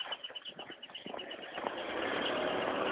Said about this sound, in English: A lot of traffic here today. I'm not quite sure why. Try to avoid some of it if I can.